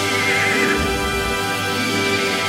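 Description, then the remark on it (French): A horse whinnies loudly, one drawn-out neigh that carries for a couple of seconds with no voices around it: the giant's powerful horse Goldfax, given to Magni in a retelling of Norse myth. “Magni reçoit le cheval du géant, le puissant Goldfax.”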